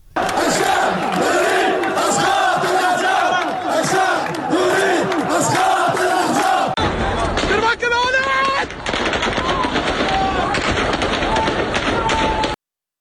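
A large protest crowd in Iraq chants slogans, including the Arab Spring slogan 'the people want the fall of the regime', in loud, rhythmic unison, then the sound shifts to a harsher stretch of shouting mixed with sharp bursts resembling gunfire as Iraqi security forces react.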